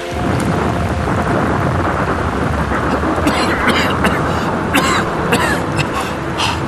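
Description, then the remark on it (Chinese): Steady, heavy rain pours down loudly in China, with deep thunder rumbling underneath and a few sharper bursts of noise breaking through partway along. No one speaks. “是雨滴吗？真的下雨了吗？我的头发衣服都淋湿了。”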